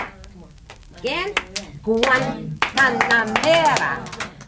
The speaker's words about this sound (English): Now, we're going to clap and sing.